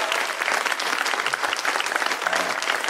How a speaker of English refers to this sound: Will you all give these two wonderful ladies a round of applause?